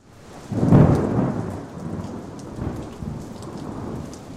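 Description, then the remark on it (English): A loud, deep rumble of thunder rolls in early and slowly fades, while steady rain patters throughout underneath, with no voices present. “A series of thunderstorms broke the intense heat wave that baked the Northeast all week and was blamed for at least 8 deaths.”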